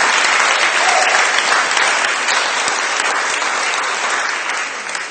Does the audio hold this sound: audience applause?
yes